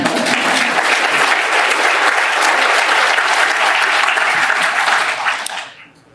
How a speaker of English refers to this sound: Karen Lewis and Jesse Sharkey said, in this city, our students, their families, deserve their humanity. That's an applause line.